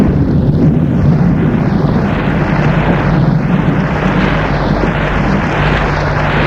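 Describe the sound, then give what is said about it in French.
A thunderstorm with flashes of lightning: a deep, continuous rumble rolls on without a break, loud and steady, with a whooshing, churning texture that slowly swells and ebbs. No voices can be heard. “Le bruit de l'orage, les éclairs qui éclairent la pièce par intermittence.”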